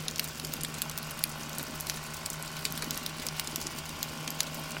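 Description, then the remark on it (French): Dense underwater crackling of snapping shrimp, a constant sizzling patter of tiny clicks, over a low steady rumble of distant harbour construction machinery. No one speaks. “Vous entendez le son crépitant des crevettes et quelques sons plus lointains d'un chantier dans le port.”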